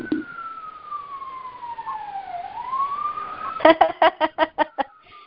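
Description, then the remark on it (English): A fire engine siren wails past in a residential neighborhood, its tone sliding down and back up, then breaks into a quick run of short, pulsing yelps before fading, with no talking. “But I don't know how many people heard it, but it was a fire engine or an or some sort of van.”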